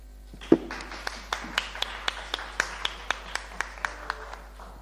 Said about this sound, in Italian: Direi di fare un applauso a questa iniziativa.